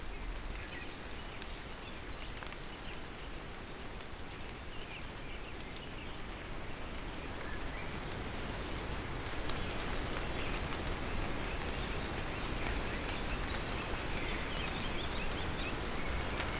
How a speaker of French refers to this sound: Le vent va et vient, bruissant dans les arbres.